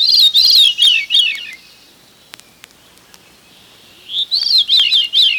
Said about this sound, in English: More people ask me about the song of the veery than any other.